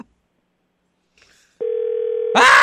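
telephone ringing unanswered

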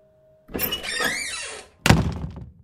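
door slamming shut

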